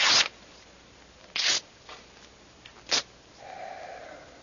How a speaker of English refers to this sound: Burns nicely, doesn't it? A good letter paper.